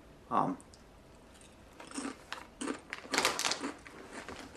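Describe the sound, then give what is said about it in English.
Crisp, irregular crunching as someone bites into and chews a small spicy chip, the first of about twelve: one sharp bite, a short pause, then a rapid cluster of brittle crunches that fade out. No one speaks. “I'm going to try and eat 12 chips without touching my eyes.”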